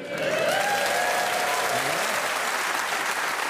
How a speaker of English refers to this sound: First time someone's had a round of applause for coming in last.